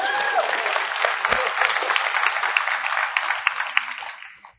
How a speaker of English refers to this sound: You can clap. It's fine. You can clap.